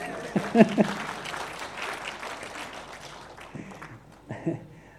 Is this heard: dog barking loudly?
no